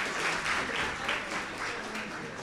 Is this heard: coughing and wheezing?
no